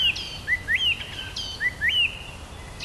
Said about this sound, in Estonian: Siis tuli lavale peaesineja. Laulu rästas. Kui ilus laul, nii mitmekesine ja võrn.